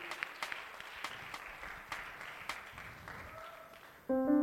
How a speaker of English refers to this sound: But I just wanted to have you stand and publicly acknowledge your achievement today. And God bless you. One more time, why don't you give them applause?